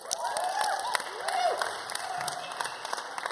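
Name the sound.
applause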